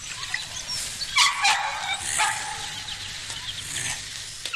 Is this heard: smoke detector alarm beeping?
no